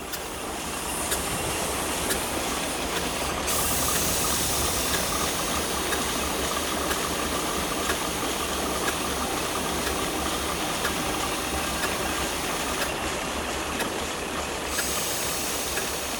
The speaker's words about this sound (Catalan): A la sala es pot veure una màquina de vapor que no és l'original. Esteu en el lloc més privilegiat de la fàbrica, allà on comença tot. Premeu el botó per simular la posada en marxa de l'activitat de la nau.